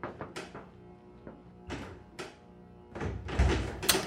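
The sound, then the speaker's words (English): A heavy metal engine room door is worked open: several sharp clunks and knocks, then a louder, grinding rush of noise as it swings, fairly loud, with no voices. “Get the door open!”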